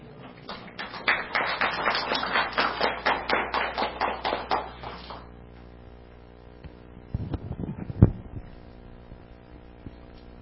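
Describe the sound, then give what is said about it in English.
A group claps in a steady, even rhythm for about five seconds, then the clapping stops, leaving quiet with a few scattered knocks and a single sharp thump. “y'all can clap if you want to.”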